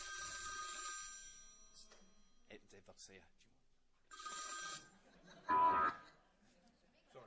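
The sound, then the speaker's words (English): A telephone rings in two bright, trilling bursts separated by a pause, with people speaking faintly in between and a louder voice briefly cutting in near the end. “Just a reminder to turn your phones off.”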